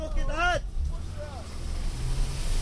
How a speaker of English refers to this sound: It does have this brand new pickup truck bouncing and fishtailing up the trail until it sticks in the mud.